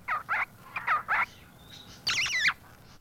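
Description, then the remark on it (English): Bright, warbling song of a Shama thrush, a soft brown and black feathered bird from India: a few quick paired chirps, then a longer, looping whistled flourish at the end. Clear, with no talking over it. “The Shama thrush hails from India.”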